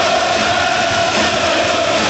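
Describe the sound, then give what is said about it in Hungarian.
A large crowd at an ice hockey match involving Slovakia roars steadily, a loud, dense wash of cheering and shouting that holds at constant intensity without any single voice standing out. “Most direkt nem szólaltam meg, hogy halljuk a közönséget.”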